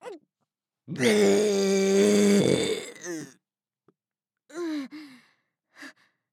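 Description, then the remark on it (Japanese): A long, loud, croaking burp erupts suddenly and lasts nearly two seconds, followed by a few short breathy vocal sounds and grunts with brief pauses between them. “不意打ち座面ゲップでしたね。”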